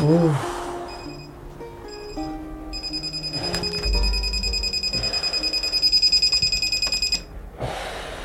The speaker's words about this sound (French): Ton réveil, s'il te plaît. S'il te plaît.